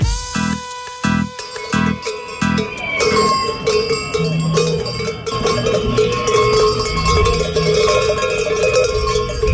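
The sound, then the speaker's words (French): Clanking bells hung on the belt of a protester at a public health workers' demonstration, ringing loudly with a bright metallic tone, first in a few distinct rhythmic strikes and then in a continuous jangling clatter over a low crowd murmur. “Les cloches que vous entendez là sont les cloches accrochées à la ceinture d'un manifestant et ils portent une banderole.”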